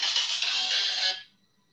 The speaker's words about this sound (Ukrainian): Телефон.